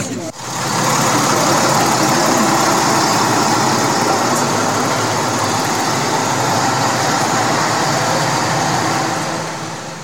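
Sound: bus engine idling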